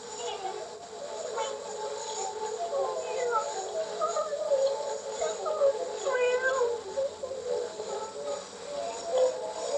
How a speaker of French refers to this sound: J'entends alors les miaulements plaintifs qui viennent de la vieille roue.